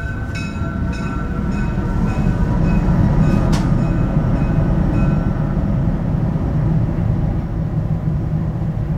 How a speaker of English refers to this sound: Uh-oh. We have these trains going through. I don't know quite why this is happening.